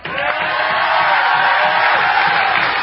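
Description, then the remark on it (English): A large outdoor crowd of fans, a sea of red, cheers and roars continuously along a mile-long parade route as Alex Ovechkin and Nicholas Backstrom ride the final bus lifting the cup; a dense wash of shouting and whooping voices stays loud and steady throughout with no pauses. “So Alex Ovechkin and Nicholas Backstrom actually rode the final bus down the mile-long parade route, lifting the cup to all the cheering and waving fans, a sea of red in the crowd.”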